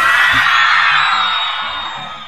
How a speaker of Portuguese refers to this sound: ordeno que todos comecem a gritar bem alto. Não estou ouvindo nada.